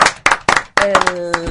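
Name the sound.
audience clapping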